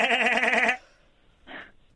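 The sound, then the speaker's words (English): A voice imitates machine gun fire with a rapid, fluttering, stuttered vocal burst lasting under a second, followed after a pause by one short, softer voiced sound. “Because over here we do pew, pew, pew for a pistol, and a machine gun is...”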